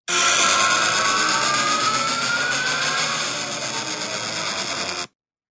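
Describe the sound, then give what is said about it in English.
A sound effect made to imitate a pod racer from Star Wars: a loud, sustained engine roar, buzzing and gritty, with a whining tone that slowly rises in pitch over about five seconds before cutting off abruptly. No voices. “It's a pod racer. And what's he made pod racer from Star Wars.”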